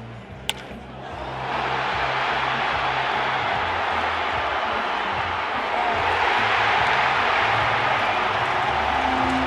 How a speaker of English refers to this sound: The crowd oohing and aahing as the ball sails through the air and exploding when it lands over the wall.